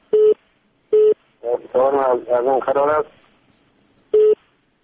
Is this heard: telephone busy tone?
yes